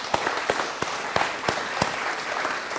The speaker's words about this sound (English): But thank you for being such great leaders of our action team. And let's just give them a round of applause.